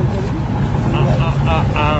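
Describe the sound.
A boat's engine drones steadily and low throughout, loud, while people talk over the rumble, as the boat passes between large ships on its way toward the port.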